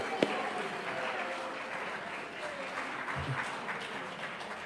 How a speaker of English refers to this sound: Right, we'll have a clap for everybody there.